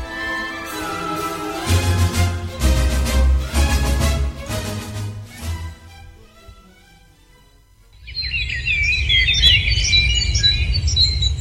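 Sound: birds chirping and squawking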